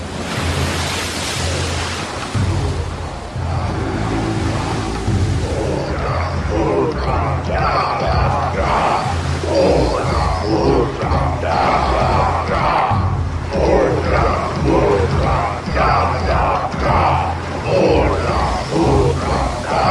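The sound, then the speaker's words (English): Many voices shout and chant together over steady rhythmic thumping and clattering of spears beating on shields as warriors dance on the decks of a galley, with a loud, dense crowd roar that continues the whole time beneath a constant rushing background. “Serpentine naked blacks dance on her decks, beating shields with spear!”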